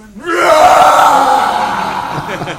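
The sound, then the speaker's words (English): A storyteller's voice imitates a roar: one loud, sustained, raspy cry that swells quickly and holds for over two seconds before gradually weakening, with no other talk around it. “And then a roaring came.”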